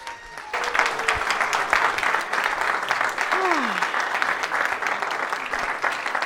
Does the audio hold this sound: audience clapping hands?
yes